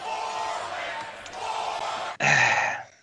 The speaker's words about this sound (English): Has Raw become too much of a bore to get through? You know, that crowd chant kind of gives it away, because yes, I don't see.